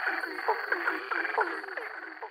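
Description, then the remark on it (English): A dense chorus of male frogs calling all at once, overlapping croaks and trills forming a continuous, busy wall of sound with repeated pulsing calls throughout. “So when you get a large chorus of frogs, that's what's happening.”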